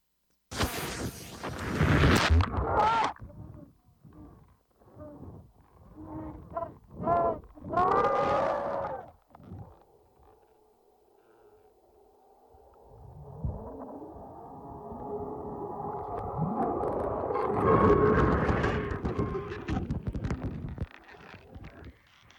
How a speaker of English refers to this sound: This is the phone dropping to the bottom of what, like a lake? Yeah, that's the cauldron. The cauldron, the, okay. the hot hole.